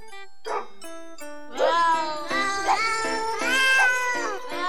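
Pitched cat meows strung together into a bouncy melody over steady backing music, each yowl landing on a note like a sung tune, loud and up front with no talking.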